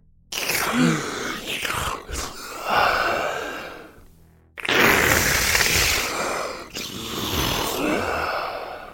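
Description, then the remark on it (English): Strange, heavy breathing heard over a phone call, harsh and hissy, with long drawn breaths rising and falling over a rough, static-like noise. No one speaks. “All you would hear is a strange breathing, followed by static.”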